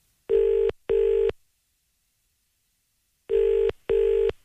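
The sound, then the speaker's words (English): A telephone ringback tone on a call to Craig Revel Horwood, sounding in the familiar double-burst pattern: two short buzzing pulses, a pause of about two seconds, then two more, steady and fairly loud, with no voices. “It's ringing.”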